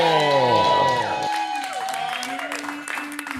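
A comedy show audience breaks into applause for a comedian being introduced, with scattered claps and loud, rising-and-falling cheers and whoops that carry on steadily for a few seconds.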